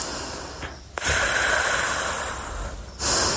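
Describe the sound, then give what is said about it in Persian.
Slow, deep breathing with no talking: a long, airy breath stretches for about two seconds between short pauses, and another breath begins at the end. “نفسای عمیق بکشید.”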